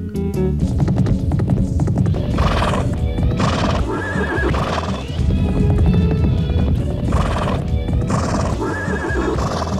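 A horse whinnies loudly several times over a steady clatter of hooves clip-clopping, close and continuous throughout, with a low rumbling background.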